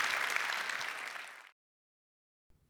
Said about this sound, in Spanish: Si Dios habló hoy, da un aplauso al Señor, que Él se lo merece. Amén.